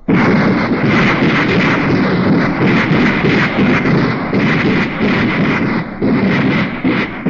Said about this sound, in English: Then the president, the chief of staff, and all the reporters were urged to hold their ears for the new anti-tank rockets. Right, hold your ears on these weapons.